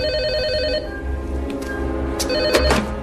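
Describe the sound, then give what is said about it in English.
A telephone rings loudly, its bright electronic trill pulsing in rapid bursts, with a few sharp clicks and thumps in the background and no one speaking. It is a movie clip played on Talk Radio 1210 WPHT, where the phones are working again. “Hammond, the phones are working.”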